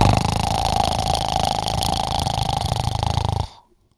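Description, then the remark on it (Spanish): A voice imitates the roar of a large wolf in the dark: one sustained, raspy, growling rumble lasting a few seconds, fairly loud and steady, then cutting off abruptly into silence. “Y esa presencia comenzó a rugir con un...”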